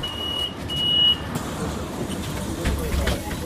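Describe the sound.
Busy street rumble as two people, one a pregnant woman, board a city bus, with a steady high electronic beeping in the first second and a faint murmur of voices beneath the engine and traffic noise.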